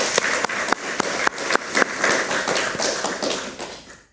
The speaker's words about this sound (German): Insofern großen Applaus an die Menschen da hinten, die das alles möglich machen.